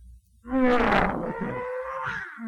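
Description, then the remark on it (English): A big lion's deep, drawn-out growl rumbles loud for about two seconds as it sneaks through the grass, rising into a rough roar and then trailing off in a lower, grumbling moan. “One day, while David was taking care of the sheep, a great big lion came sneaking through the grass.”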